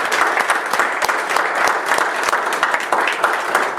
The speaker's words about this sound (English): Thank you for being here. Give her a hand of applause.